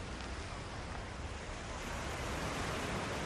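A steady, broad wash of sea surf on a sandy beach below a promenade rolls on without pause, a continuous hiss with a low rumble underneath, even in loudness, swelling slightly toward the end. No voices.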